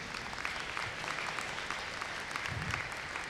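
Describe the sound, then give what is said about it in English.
Steady applause from an audience fills the whole stretch, a dense wash of many hands clapping at once, fairly loud and continuous without any talking over it. “I'll clap for oaks, too, because they really are special.”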